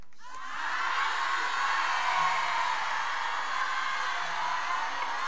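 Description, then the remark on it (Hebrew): A large audience bursts into a loud, unified shout of Shema Yisrael, a dense sustained roar of many voices that starts abruptly and holds steady for about five seconds. “ומי שהתלוננה שקודם לא צעקתם בשמע ישראל האנמי הזה, אז קדימה.”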